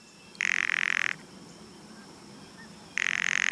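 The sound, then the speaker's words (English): A bird gives two loud, dry rattle calls, each a rapid burst of harsh clicks lasting under a second, separated by a short pause, heard alone with no talking. “Rattles.”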